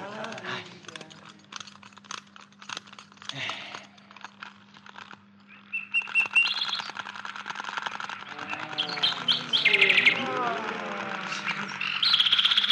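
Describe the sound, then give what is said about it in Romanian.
A mechanical golden toy nightingale sings: soft clicks and rustles at first, then bright, warbling trills and chirps that swell louder and repeat in quick, busy phrases. “Nu cântă rău jucăria asta strălucitoare.”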